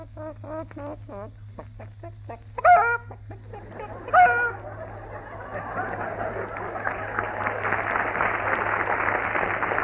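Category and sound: bird, hen clucking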